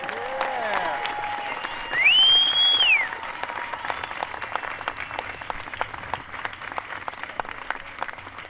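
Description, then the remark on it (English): An audience at the Harmony Workshop applauds a band steadily, a dense wash of many hands clapping throughout, with a shrill whistle cutting through loudly for about a second early on and a few cheers mixed in. “One more round of applause for ….”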